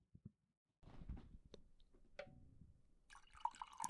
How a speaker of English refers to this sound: If you pour a drink into a glass, I'm going to do it on here.